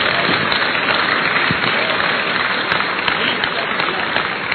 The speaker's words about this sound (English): Clap for Jesus.